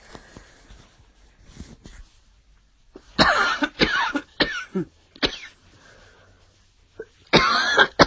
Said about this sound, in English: Sorry, I've got a cough.